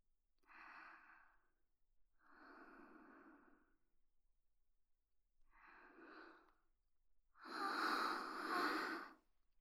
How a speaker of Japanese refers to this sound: すみません、今思いっきり無遠慮にあくびしちゃいました。